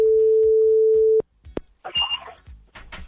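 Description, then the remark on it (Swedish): A steady, loud telephone ringing tone sounds over a call line as a call is placed to Jokkmokk, for about a second, then cuts off with sharp clicks as the call connects and faint line noise and brief voice sounds follow. “Men vi ska ringa nu då till Jokkmokk.”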